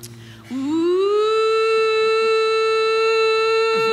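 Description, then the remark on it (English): A tornado warning siren in Oklahoma starts up and winds into a loud, sustained wail, its steady rising tone holding strong with no voices over it. “And in that moment, because story of my life, the tornado siren went off.”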